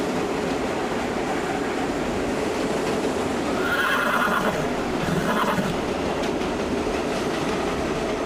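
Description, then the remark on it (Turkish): A horse whinnies twice in high, wavering bursts while loose on a train station platform in Australia, over the steady rumble and clatter of a train pulling in to the platform. No one speaks. “At istasyonda dolaşırken tren perona yanaştı.”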